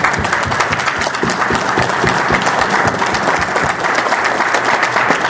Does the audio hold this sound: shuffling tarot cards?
no